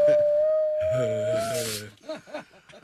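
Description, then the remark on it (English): A dog imitating a siren howls in a long, steady, siren-like wail, holding one mid pitch for over a second as it swells into a fuller cry, then a person briefly talks. “Oh, it says dog imitates siren.”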